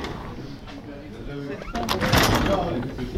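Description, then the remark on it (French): A door at a café in Paris is pushed open partway through, a brief clattering rush of noise over a steady background of indoor murmur and faint voices. “Je crois qu'il est installé juste derrière la porte.”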